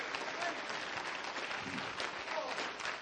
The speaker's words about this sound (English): If you love the message and you appreciate what God has done, clap your hands unto him and bless his name this morning.